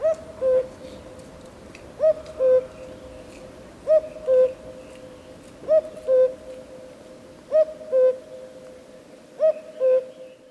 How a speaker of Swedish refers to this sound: Ja, vill man höra en gök så får man oftast bege sig till obygden. Men den kan också höras i städernas utkanter.